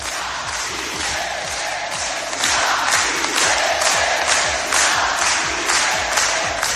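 A large crowd of Bildu supporters in the Basque Country shouts a rhythmic chant for independence, loud voices rising together in steady, repeated bursts roughly every second, growing a bit stronger partway through.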